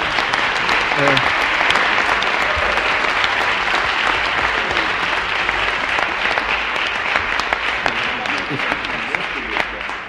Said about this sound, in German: Ich denke, der Beifall ist völlig berechtigt, aber wir haben ja die Hoffnung, dass die anderen Gesprächsteilnehmer auch noch ähnlich begeisterungswürdige Beiträge leisten und wollen ihnen die Chance dazu geben.